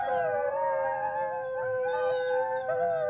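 Several wolves howl together in a sustained chorus in the valleys of western Montana, long wavering tones overlapping and gliding up and down in pitch, steady and fairly loud throughout with no talking.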